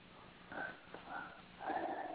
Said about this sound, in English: I can hear him breathing.